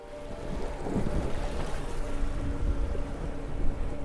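A boat engine drones steadily with a low rumble as the boat sets out from Arradon in the gulf, mixed with rushing water and wind buffeting the microphone, continuous and fairly loud throughout, with no one speaking.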